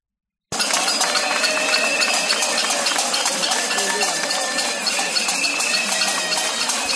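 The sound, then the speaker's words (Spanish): Residents of the Osmayos neighbourhood bang many pots and pans in protest against insecurity, squatting and crime in the area: a dense, continuous clatter, bright metallic clanks overlapping into a loud, steady din that starts abruptly and keeps going without pause. “Lo que se ha vuelto a escuchar también este fin de semana son las cacerolas de los vecinos de Osmayos para protestar por la inseguridad que vive el barrio con las ocupaciones y la delincuencia.”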